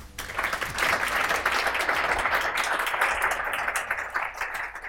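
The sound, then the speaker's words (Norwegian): An audience at a panel debate claps steadily for the full five seconds to welcome the panelists. It is a dense, even wash of many hands with no single claps standing out and no one speaking over it. “Yes, velkommen til dere. Applaus!”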